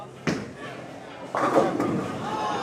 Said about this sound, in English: Right now, both teams are celebrating strikes and laughing at occasional gutter balls.